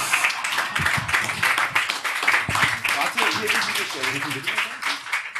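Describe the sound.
An audience applauds steadily for several seconds, a dense wash of many hands clapping, with voices talking and calling out underneath, especially toward the end.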